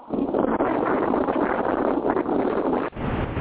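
Steady, loud wind buffeting a phone microphone outdoors during a phone call, a dense rumbling roar across the low and middle range with brief dips and gusty surges, and no clear voices.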